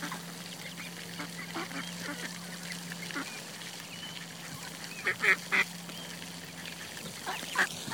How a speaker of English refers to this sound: Nice sunny day. Ducks are out. Say hello to Audio Mode ducks.